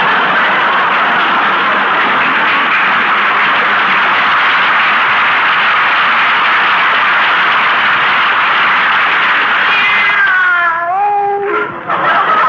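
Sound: cat meowing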